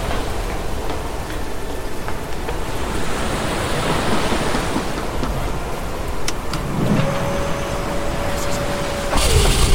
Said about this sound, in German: Was zum? Das kam aus dem Nichts. Die Wellen, sie sind riesig.